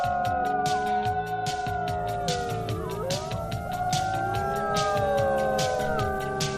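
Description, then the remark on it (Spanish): A professional howler on the COPE radio programme Fin de Semana imitates a wolf howl: long, sliding wails that rise and fall and overlap one another. They ring out loud over a steady, rhythmic percussive beat, and nobody speaks. “Aquí tenemos a nuestro aullador profesional,”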